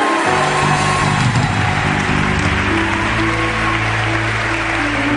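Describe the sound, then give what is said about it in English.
A crowd applauds and cheers loudly and steadily for the whole stretch, a dense wash of clapping and shouts, with low sustained tones humming underneath, as an evening church audience cheers for itself at the preacher's request. “Et acclamez-vous très fort ce soir s'il vous plaît.”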